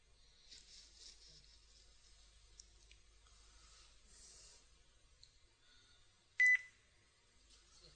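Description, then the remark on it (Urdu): A single short, sharp electronic phone beep sounds once near the end as a phone call comes in, loud against a quiet background of faint hiss, with no one speaking. “اور کال آ گئی، کالوں کا ٹکراؤ ہے بہت زیادہ.”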